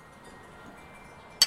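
glasses clinking

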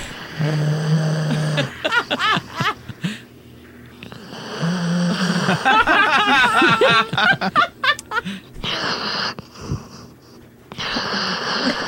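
dog snoring

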